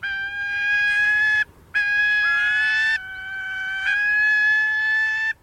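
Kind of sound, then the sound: bird, gyrfalcon call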